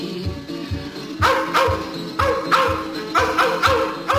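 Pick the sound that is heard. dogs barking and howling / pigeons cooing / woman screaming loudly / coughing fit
dogs barking and howling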